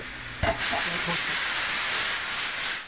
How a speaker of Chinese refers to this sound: 那个是高压锅